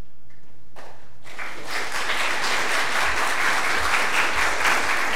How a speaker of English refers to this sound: Thank you. I feel like I should be wearing a bow tie when they clap like that.